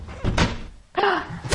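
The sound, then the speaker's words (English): A door is handled: a thudding knock of movement, a brief lull, then a squeaky swing and a final solid thump as it shuts. “That's why the door's closed.”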